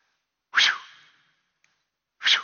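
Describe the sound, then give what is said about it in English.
Two quick, airy swishes of a long, curved, razor-sharp iron sickle blade on a wooden handle slicing through the air, the first trailing off in a brief hiss and the second arriving about two seconds later, fairly loud. “that image of a long, curved, razor-sharp iron blade that is attached to a wooden handle.”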